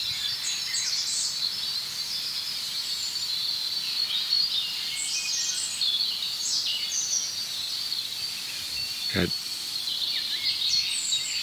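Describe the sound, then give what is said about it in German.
Thin, very high notes of a European robin singing, trickling and warbling continuously over a steady hiss of background noise, with one brief low thump partway through; no one speaks. “Jetzt habe ich mich gedreht zu dem anderen Rotkehlchen, es ist gerade still geworden.”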